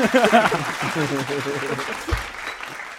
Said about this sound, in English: Or just give yourself a round of applause, mate.